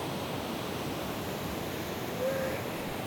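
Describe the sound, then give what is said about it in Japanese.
Waves wash onto the shore in a steady, broad rushing hiss that holds an even level throughout, swelling slightly toward the end, with no voices. “これ以上行くと寄せる波で足が濡れそうなので、この辺りまでにしましょう。”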